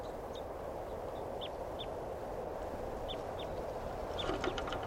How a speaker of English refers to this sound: Birds are going down for water now, right at the corral. Chittering and